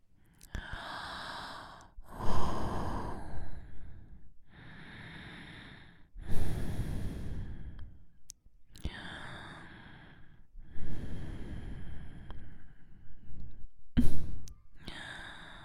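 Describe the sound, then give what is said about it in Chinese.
A series of heavy, breathy exhalations and inhalations in uneven bursts of a second or two with short pauses between, a woman panting and sighing after sex. “这股性爱的余晖通过我的喘息出的哈气，传给弟弟一些吧。”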